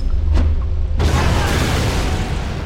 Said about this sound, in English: The explosions blew the remaining fight out of the rest of them.